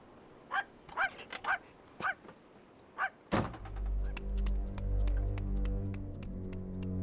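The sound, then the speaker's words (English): A dog barks repeatedly, sharp yelps in quick clusters, then falls silent as a thud gives way to a loud, steady mechanical drone with faint ticking. “And take this fucking dog with you.”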